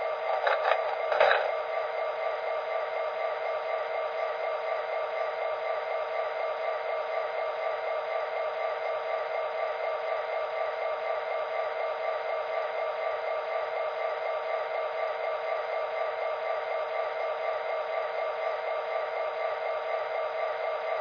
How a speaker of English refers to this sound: Take a look at the compressor. It sounds a little noisy.